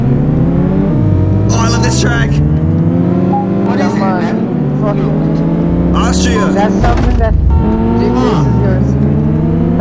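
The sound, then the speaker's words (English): Loud, steady racing-game engines rev and whine during a multiplayer race set in Austria, their pitch sweeping up and dropping again and again as several cars accelerate together. A voice breaks in briefly over the engine noise. “Dude, there's like less of cars, I don't know which one I am.”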